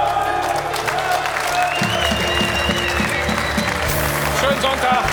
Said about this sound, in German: Applaus.